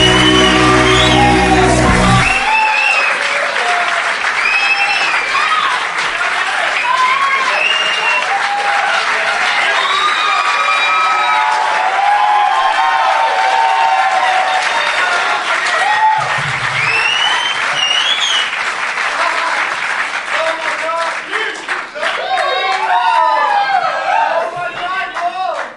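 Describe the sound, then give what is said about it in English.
An excited crowd at a Doug Loves Movies show at the Tom Lee Music Hall in Vancouver, BC, Canada, part of the Vancouver Comedy Festival, cheers and applauds loudly and steadily, with whoops and shouts rising above dense clapping throughout, and a brief musical ending at the start. “Fired up crowd.”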